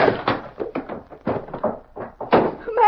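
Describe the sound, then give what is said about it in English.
A rapid flurry of knocks and thumps builds into a door banging shut, loud, as a man throws a chair and runs out of the door, with no one speaking. “Come on, you let him throw that chair at you and run out of the door.”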